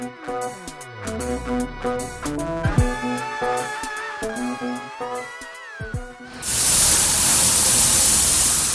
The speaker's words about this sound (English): The sound of a robot there spraying primer coat onto a wall from NTU called PictoBot.